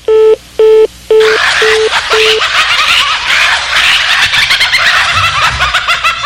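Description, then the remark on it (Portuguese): Five loud touch-tone beeps ring out in quick succession as a telephone number is dialed, then give way to a dense wash of crackling, busy noise. “Fica ligando pra casa dos outros pra passar trota.”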